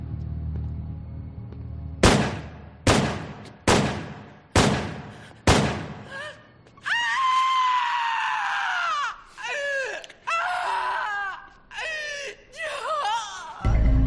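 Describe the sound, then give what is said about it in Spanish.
Five loud gunshots ring out in a quick, evenly spaced series, each with a short echoing decay, followed by several seconds of wavering, anguished screaming; a man is shot in the back at the entrance of the Dakota apartment building in New York, beside Central Park. “A la entrada del lujoso edificio de apartamentos donde vivía, el edificio Dakota de Nueva York, junto al Central Park, aquel admirador le disparó por la espalda. El ex-… recibió 5 tiros.”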